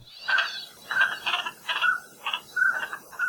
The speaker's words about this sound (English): and today we've got the call of one of Hawaii's most common migratory ducks.